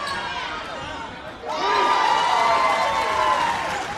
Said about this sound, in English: Fans cheer as Hoonah scores against Yakutat in a hard-fought gold medal tournament game. Elders in wheelchairs, texting high schoolers, and toddlers in diapers fill the stands of the Juneau Douglas High School gym